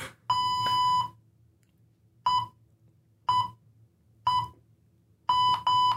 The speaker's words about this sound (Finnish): Joo, täällä tulee semmoinen 3 sekunnin varoitus. Tää saattaa olla vähän ahistavaa, kun se rupeaa piippaamaan, mutta...